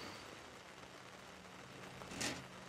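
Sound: rain falling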